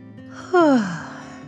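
A single drawn-out yawn, swelling loudly and sliding downward in pitch over about half a second, then trailing into a soft breathy fade with no talking.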